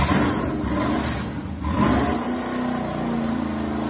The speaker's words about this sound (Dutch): Lekker, hè? Heerlijk. Geweldig, hij brult echt. De dikke V8, 6,2 liter. Hoeveel pk heeft hij? We zitten rond de 430 pk.